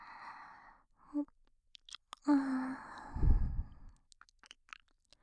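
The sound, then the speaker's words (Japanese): Breath is blown into the listener's ear along the shape of the ear in two long, airy exhalations, the second one rushing and rumbling, followed by soft scattered mouth clicks. “後ろから舐められた時よりも耳の形に沿って大量に吐息が入るでしょう。”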